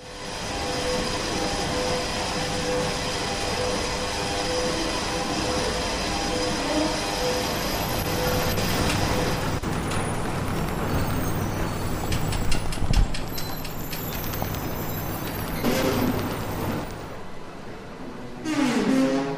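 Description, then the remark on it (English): Creaky old escalators in the Washington, D.C. metro subway system grind with a steady, loud mechanical drone, broken by metallic clunks and a few sharp squeals toward the end, with no one talking. “Well, if you're in the metro, the subway system in Washington, D.C., these are some of the sounds that you'll be hearing. Most of them actually, as Chris Richards is telling us, from these creaky, cranky old escalators in the system.”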